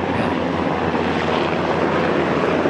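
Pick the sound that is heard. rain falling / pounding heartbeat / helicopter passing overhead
helicopter passing overhead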